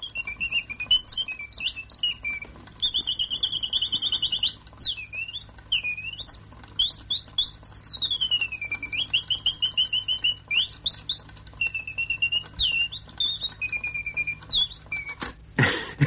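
A mechanical singing bird in an embossed silver-gilt patch box, about 2 by 3 inches and an inch deep, warbles continuously. The brightly coloured bird, about half an inch long, moves its beak and wings. Rapid rising and falling whistles and trills, fairly loud, ending with a sharp click.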